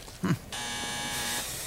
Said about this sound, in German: Ach, wieder die falsche Klingel.